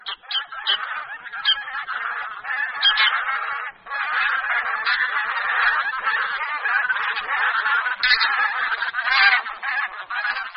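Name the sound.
bean goose calls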